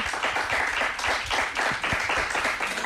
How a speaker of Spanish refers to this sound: Ese aplauso de la gente que está aquí, por favor.